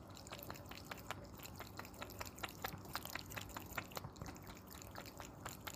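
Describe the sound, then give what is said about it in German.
A cat named Mogli splashing and slapping water at its small water fountain, a quick irregular series of wet, dripping splashes over a steady low trickle, fairly quiet, with no talking. “Kannst du mal kurz aufnehmen, wie der Mogli Wasser schlägt?”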